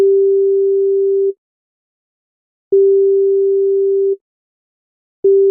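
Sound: telephone ringback tone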